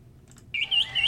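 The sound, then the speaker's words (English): A wood thrush sings a short, clear phrase of bright, fluty whistled notes, distinct over a quiet low background hum, with no one talking. “Do you hear that? It's a wood thrush.”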